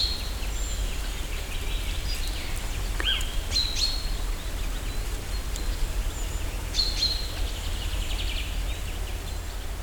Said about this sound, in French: Les oiseaux commencent à chanter, enfin, à marquer leur territoire pour la nuit qui va bientôt tomber.